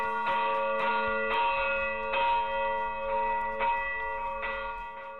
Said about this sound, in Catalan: En definitiva, és un dels punts del nostre territori des d'on encara es pot gaudir del toc manual de les campanes.